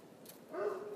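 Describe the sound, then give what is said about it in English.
A dog barks somewhere far off, a faint, drawn-out yelp or two carrying across an otherwise quiet, hushed outdoor space. “That even as you sense, you're being sensed by the dog in the distance.”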